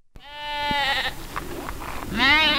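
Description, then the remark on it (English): Sheep bleat on a hilly farm in Pyeongchang, 80 miles east of Seoul: one long wavering call followed by a second loud bleat near the end, with a faint outdoor background between them. “John Chung Won tends sheep on a hilly farm where he was born in Pyeongchang”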